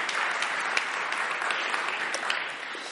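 A crowd claps steadily for a few seconds, a dense, even wash of many hands with occasional sharper individual claps poking through. No voices are heard.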